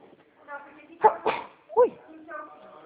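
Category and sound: human body sound, sneeze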